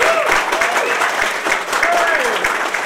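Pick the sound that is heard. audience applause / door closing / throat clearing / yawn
audience applause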